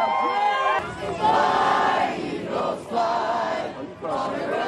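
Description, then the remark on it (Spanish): A dense crowd roars and cheers without pause on Broad Street in Philadelphia, celebrating a championship awaited for 58 years, many voices overlapping in loud, excited shouts and whoops that swell and dip in waves across the whole stretch. “Era una celebración que llevaban esperando 58 años.”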